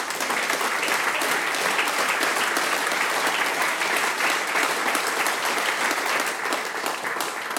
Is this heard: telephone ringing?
no